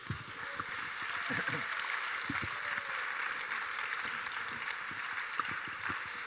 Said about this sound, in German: Ein Applaus nochmal für alle, bitteschön.